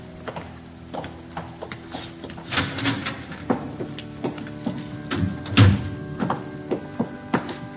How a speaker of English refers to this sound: Well, what's that? Climbing stairs to a choir loft.